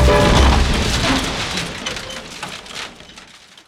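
A wooden boat crashes on a river: a heavy wooden crash bursts out loudly, followed by a crackling, splintering clatter of breaking timber that gradually fades away over a few seconds.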